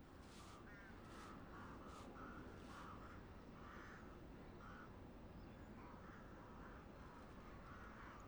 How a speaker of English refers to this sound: Crow.